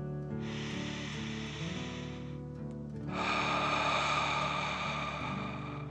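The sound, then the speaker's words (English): A slow, deep breath drawn in during a guided relaxation exercise, a brief pause, then a longer, louder hissing exhale, over a soft, steady musical drone. “Take another deep dragon breath in and out.”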